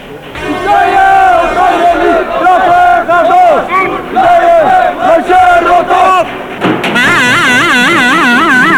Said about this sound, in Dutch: Heb jij enig idee waar deze demonstratie voor is? Hotel Bos is zo'n kraakpand, toch? Ja, ken je dat? Ja, de gemeente wil het verbouwen ofzo, of die mensen eruit gooien.